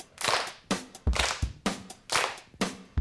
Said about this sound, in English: Yeah! Yeah, let's clap.